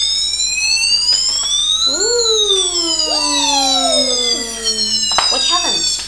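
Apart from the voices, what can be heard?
fire engine siren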